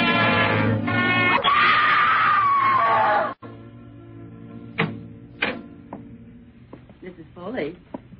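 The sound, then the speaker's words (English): A loud, sustained high-pitched scream from a woman lasts about three seconds, then cuts off abruptly, followed by quieter scattered sounds and murmuring voices. “You mustn't scream like that.”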